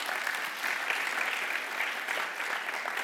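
An audience claps steadily, a dense wash of many hands applauding at moderate volume for about three seconds, with no one speaking over it, welcoming a woman among the audience.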